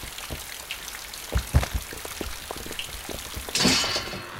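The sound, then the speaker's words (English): Rain patters steadily outside, scattered drops tapping irregularly against a surface, with a brief louder wash of rainfall near the end; no one speaks. “I'm sure the rain will wash those chunks out of your clothes in no time.”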